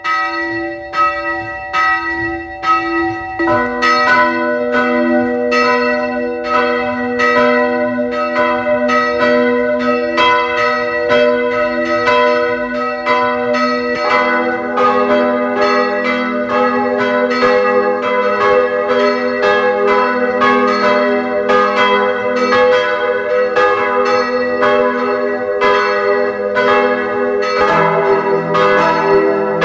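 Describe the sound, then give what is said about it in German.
Church bells of the parish church of St. Margarethen im Rosental in Carinthia ring out steadily and loudly at 12 o'clock, several bells overlapping in a continuous peal with rich, lingering tones that fill the whole stretch without any voices. “Sie hören die Glocken der Pfarrkirche St. Margarethen im Rosental in Kärnten.”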